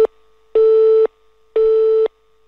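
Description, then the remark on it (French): A telephone tone for an unassigned number: two loud, steady half-second beeps of the same pitch separated by equal pauses, heard alone with no voices. “Le numéro que vous demandez n'est pas attribué.”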